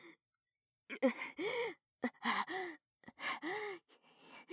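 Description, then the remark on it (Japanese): Heavy breathing right at the ear: a series of five or six breathy, voiced gasps in an uneven rhythm, moderately loud with short pauses between them and no talking. “息遣いが耳元で聞こえているとやっぱり興奮しちゃう。”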